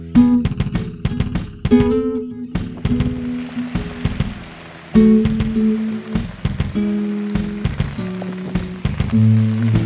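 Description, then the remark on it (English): Rain falls steadily, after three days straight of rain, with scattered drips and taps, while a low droning hum shifts in pitch underneath throughout. “What's happening is that the rain is consistently coming down.”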